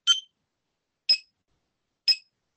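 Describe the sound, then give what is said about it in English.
A breathing-pace clicker, called a clicker ticker, ticks three times, once about every second, each tick a short bright metallic click with a ringing high edge, standing alone in silence. “In order to do it properly, you need one of these, which is a clicker ticker.”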